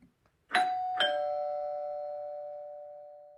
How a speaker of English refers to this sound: We wait. The doorbell rings.